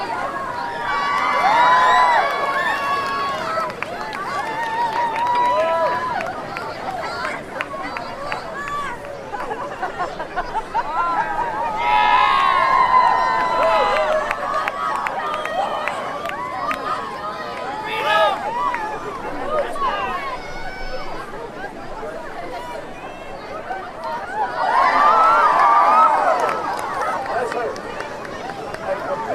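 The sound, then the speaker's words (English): A large crowd cheers and shouts continuously for a man dressed as a Chilean miner carrying a pick, with whoops and high excited voices rising in swells around the start, middle and near the end, over a steady babble of chatter. “Good bit cheer.”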